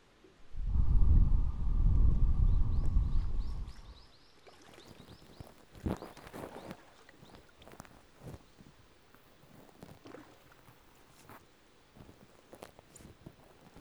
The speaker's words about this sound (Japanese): 寝ている間もこうしてお耳をきれいにしてあげてたんです。